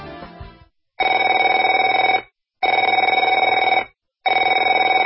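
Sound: telephone ringing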